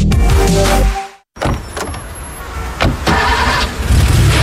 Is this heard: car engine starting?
yes